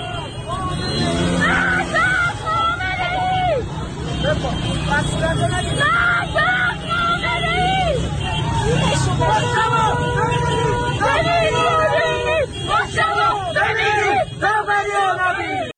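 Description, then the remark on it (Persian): A large protest crowd on Valiasr Street in Tehran, Iran, chants the slogan "death to the dictator", many voices shouting loudly and continuously in rising and falling bursts, with traffic and engine noise rumbling underneath. “در خیابان ولیعصر تهران شعار مرگ بر دیکتاتور سر داده شد.”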